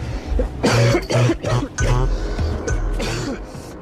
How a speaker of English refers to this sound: Looks like he gave the disease to about 14 people on the way off the bus, coughing, gripping the pole.